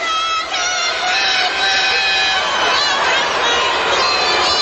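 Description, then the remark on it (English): A large stadium crowd in San Diego boos a female singer loudly and continuously, a dense roar of many voices with no break throughout. “Remember, everybody's booing her.”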